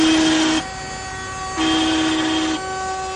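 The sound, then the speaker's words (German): Car horns, controlled as a sound installation, blare in long, steady tones as cars drive in circles around the Siegessäule in Berlin in the afternoon: two loud honks of about a second each separated by a softer sustained horn drone, all over a constant background hum. “Und durch die Hupen, die irgendwie gesteuert sind, gibt es dann so eine Art Soundinstallation hier”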